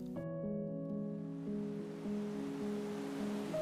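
Ocean surf pounds the shore in a steady, continuous rush, with a steady wind blowing toward the shore and low sustained musical tones shifting slowly over it. No one speaks.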